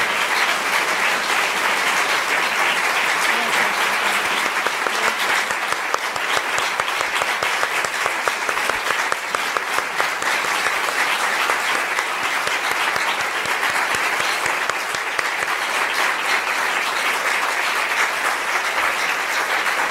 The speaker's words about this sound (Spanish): columna vertebral en esta guerra contra el olvido, nuestras comandantas del CRI-CG del EZLN, para quienes pedimos ponernos de pie y brindarles un caluroso aplauso, símbolo de lucha, resistencia y rebeldía, porque sin ellas no estaríamos aquí.